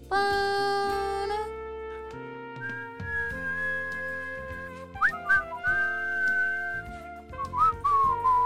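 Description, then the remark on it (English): Someone whistles a tune with sustained, sliding pitches over a backing of music, the melody rising and bending in a few short phrases, clear. “You're whistling that?”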